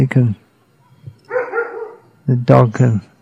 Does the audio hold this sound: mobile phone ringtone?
no